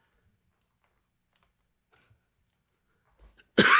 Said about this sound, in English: You okay over there? So I was trying to get to the mute button to cough. I thought you were looking for a comment. No, I was trying to get to the mute button to cough, and I was trying to grab my hand and cover my mouth.